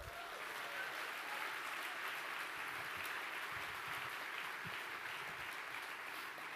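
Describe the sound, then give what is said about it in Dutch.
Steady, dense applause from a large audience, many hands clapping together at an even level for several seconds without a break. “Ik wil zeggen, een warm applaus.”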